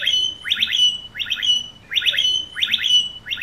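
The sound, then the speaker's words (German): Blackbirds mimicking an e-scooter's alarm: a bright, electronic-sounding chirping phrase repeats four times at a steady pace, fairly loud, with no voices over it. “Und also diese Amseln imitieren halt die Roller.”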